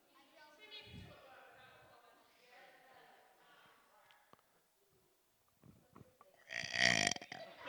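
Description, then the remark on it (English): A person deliberately swallows air and lets out a long, drawn-out belch, followed after a pause by another loud, rough burp that rises sharply at the end. “Who's any good at belching? Swallowing air and going”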